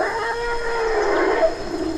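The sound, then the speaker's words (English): About a dozen wild forest elephants call while grazing in a natural forest clearing around a small, fast stream, drawn-out tonal cries rising and falling over steady outdoor ambience, with no voices. “A dozen wild elephants are grazing through a natural clearing several hundred yards long and 150 across.”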